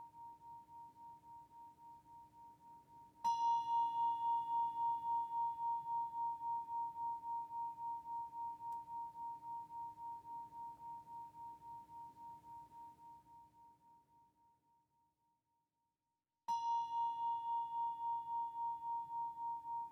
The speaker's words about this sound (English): The sound that a bell makes after it has been struck and before the sound ends. Listen now to the sound of the bell.